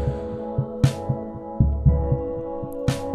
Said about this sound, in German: Und ein Keyboard, das die drei Akkorde hier spielt, auch mit einer Art Puls, aber langsamer als der Drumbeat und in eine Verzerrung geschickt.